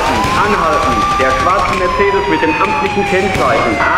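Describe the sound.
A police siren wails loudly and steadily, its tone sweeping slowly up and down over a busy, noisy background with voices mixed in.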